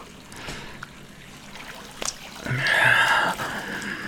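Warm water sloshing and trickling right up against a rock, with a few soft splashy movements early on and a fuller, louder swirl of water near the end. No one speaks.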